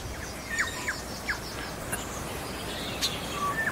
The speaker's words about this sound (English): We've got little sparrows chirping right over my shoulder here.